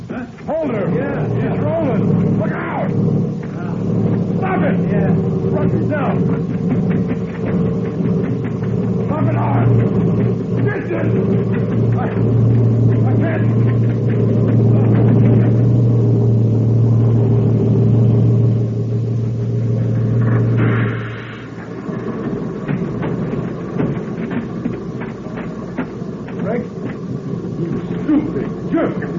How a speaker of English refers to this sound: I saw you fall in front of the truck. I didn't fall. No? I laid down so the truck would pass over me.